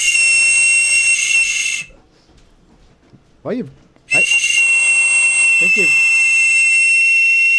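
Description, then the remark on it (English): A 3D-printed toy whistle blown hard in two long, shrill, piercing blasts separated by a short pause, with a voice briefly audible during the gap and faintly under the second blast. “You want to blow a little harder and maybe a little further away from the microphone, too, so we don't have to replace them.”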